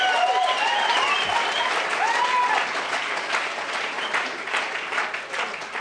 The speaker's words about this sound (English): The language of the heart, the applause that we share with each other.